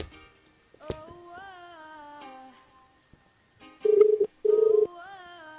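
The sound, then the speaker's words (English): An outgoing call's ringback tone sounds as two loud, steady buzzing tone bursts in quick succession, following a quieter stretch of wavering, tonal sounds. “Hear it ringing?”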